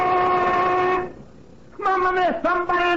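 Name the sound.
factory lunch whistle blowing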